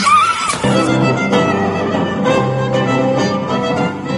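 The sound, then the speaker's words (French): A voice briefly imitates a horse's whinny with a shaky, wavering pitch, quickly swallowed by loud, steady music that plays on for several seconds. “Faites-moi le cheval.”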